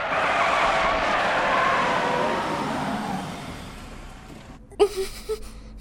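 A car's tires screech in a long, loud skid on a road that gradually fades as the vehicle is brought to a sudden stop, followed by a short sharp knock and a few softer thuds once it has stopped.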